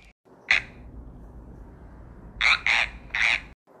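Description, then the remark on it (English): Loud, close frog croaks: a single harsh croak, a pause, then three quick croaks in a row over a low rumbling background. “if all of a sudden there had not sounded just at her feet, so that it startled her, a loud croak.”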